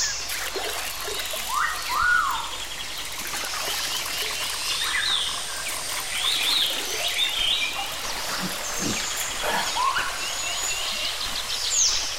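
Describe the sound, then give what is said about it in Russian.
Water trickles steadily in the background while scattered chirping calls, like frogs or small birds, pop up over it now and then. No one speaks. “Боже мой, вода, водичка, сейчас напьюсь.”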